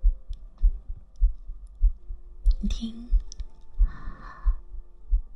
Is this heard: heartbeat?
yes